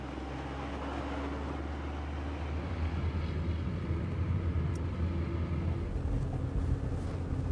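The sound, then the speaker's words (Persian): A car is driven with a steady low rumble of engine and road noise, swaying slightly in intensity as the driver swerves it from side to side, with no voices. “مریضی این ماشین رو اینور اونور میکنی؟”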